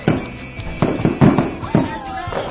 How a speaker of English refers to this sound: Oh, they know fireworks. Listen to that rumble. Listen to that on the strip. Yeah. Red all over. They've synchronized the entire strip.